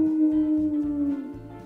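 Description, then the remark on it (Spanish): A wolf howls in one long, sustained tone that holds steady and sinks slightly in pitch toward the end, over a low, pulsing rhythmic thump underneath. “Aúlla el lobo.”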